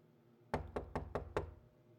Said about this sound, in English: Okay, fine. Will you just stop? You're really pounding on that door, and I don't want you to break it down, okay?